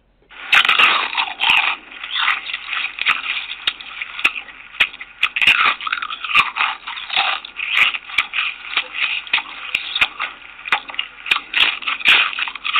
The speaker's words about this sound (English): Every time a person crunches into a potato chip, he or she is enjoying the delicious taste of one of the world's most famous snacks, a treat that might not exist without the contribution of Black inventor George Crumb.